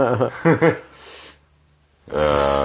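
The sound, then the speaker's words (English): A person mimics loud snoring with voice, a few rough snorting bursts, then a quiet breathy pause before a strong harsh snore-like rasp ends it, loud. “We'll just make a podcast where we just go to sleep. It's just us snoring.”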